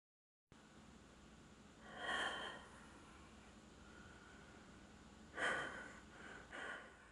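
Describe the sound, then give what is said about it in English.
A person standing right beside someone breathes audibly three times, with a longer breath followed by two shorter, airy ones spaced a few seconds apart over a steady low hiss. No one speaks. “I can hear you standing right beside me breathing.”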